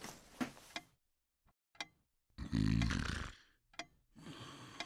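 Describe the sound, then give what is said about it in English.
A man snores once in bed, a loud, rasping, drawn-out breath, with short quieter snorts and faint clock-like ticks around it. “You were snoring.”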